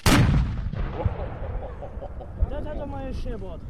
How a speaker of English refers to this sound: As we talk, the battle starts. Guns and cannons fire. Smoke fills the air.